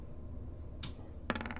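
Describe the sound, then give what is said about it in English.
Dice rolled on a table for a sleight of hand check with thieves' tools in a tabletop role-playing game, coming up a natural 20: a single sharp clack, then a second hit that breaks into a quick run of light rattling clicks as the dice tumble and settle. No one speaks. “Watch as I roll a natural one.”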